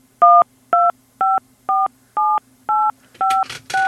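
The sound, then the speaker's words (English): Eight phone keypad tones pressed one after another at a steady, even pace as a card number is entered during a phone call, each a short, clear dual-pitched beep, with faint line hum underneath and no one speaking. “Okay, sir, after the beep, kindly enter your card number, sir.”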